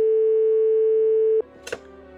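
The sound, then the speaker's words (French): A steady, loud telephone line tone hums for over a second, then cuts off abruptly, followed by a quiet click and a faint crackle on the line; the number called does not answer. “Désolée, le numéro ne répond pas.”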